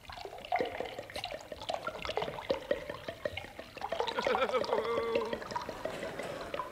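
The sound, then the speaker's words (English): Liquid is poured steadily into a glass, a splashy gurgle whose pitch rises as the glass fills, with some voices in the background. “Enough? Just a spot more.”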